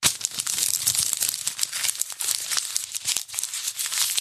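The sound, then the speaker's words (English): Sustained crumpling and crinkling, like paper or plastic being balled up, with rapid irregular crackles running continuously for several seconds and no voices. “I love the crumple effects today”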